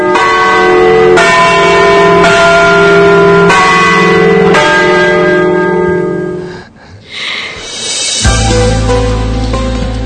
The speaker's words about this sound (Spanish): Esas campanadas que saltaban ahí instantáneamente, el programa sin más, no nos esperó a que habláramos y saltaran ahí.